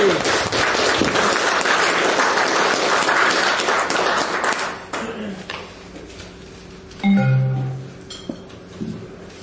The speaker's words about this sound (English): Can you all please give him a very warm round of applause? Thank you.